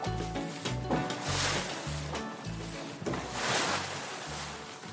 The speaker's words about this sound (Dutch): De lucht was warm en terwijl de boot voorjakkerde, zorgden de spetters van het water voor verkoeling.